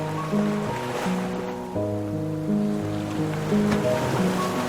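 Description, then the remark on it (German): Soft ocean surf washes onto a beach in slow, gentle swells beneath a calm, sustained musical drone, the waves a steady hiss rising and falling in the background. “Und mit den Füßen weiter im Ozean beginnst du den Strand entlang zu gehen.”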